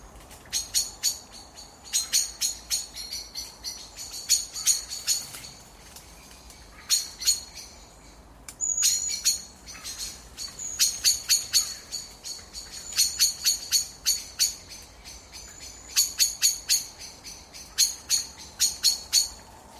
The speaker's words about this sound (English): And the evening competitions as blackbirds roost.